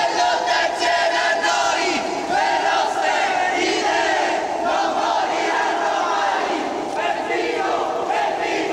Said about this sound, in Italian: Intanto arrivò la bara con i resti di Peppino. Un grido all'unisono si sollevò. Peppino è vivo e lotta insieme a noi.